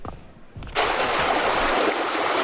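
Water begins flowing after a brief quiet moment, a steady, bright rushing hiss like a running stream or tap that continues evenly and fairly loud to the end.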